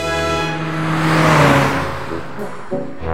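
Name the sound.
old car engine revving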